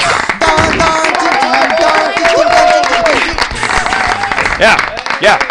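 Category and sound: crowd, applause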